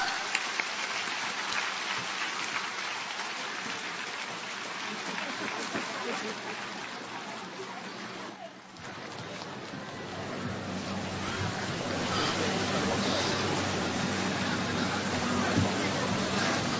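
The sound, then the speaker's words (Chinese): An audience applauds to welcome station head Lu Junhong to read totems, in a dense, continuous wash of clapping that holds steady, dips briefly around the midpoint, then swells a little louder to the end, with no voices standing out. “下面让我们用最热烈的掌声恭请尊敬的卢军红台长为我们慈悲看图腾。”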